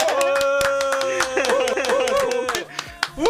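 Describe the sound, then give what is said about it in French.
Applause from several people during a live radio broadcast, a quick run of sharp, fairly loud hand claps that thins toward the end, with voices or a steady tone running underneath. “Eh ben, moi j'ai envie de t'applaudir.”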